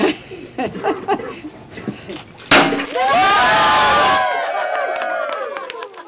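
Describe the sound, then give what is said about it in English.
A single sharp crack of a champagne bottle shattering against a ship's bow at a christening at an industrial park dock, immediately followed by loud cheering and whooping from over 20 attendees, with scattered voices talking before the smash. “successfully smashes a champagne bottle over the bow.”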